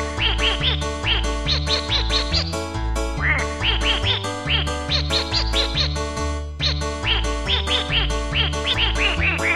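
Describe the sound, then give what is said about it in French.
Rapid duck quacks rise and fall in a tune, played as a loud musical solo over a steady thumping bass beat, with no voices. “Solo de canard.”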